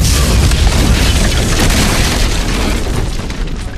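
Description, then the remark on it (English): C4 plastic explosive charges, fixed to a massive door's card lock, detonating in one heavy, sustained blast: a deep booming roar laced with crackling hiss that stays loud for several seconds, easing only slightly. No voices. “Though a section of the overhead lights was extinguished by the blast, Ryan could see the massive door no longer had a lock and that it had slid back on its hidden floor tracks, thrown away from the jam by a good foot and a half.”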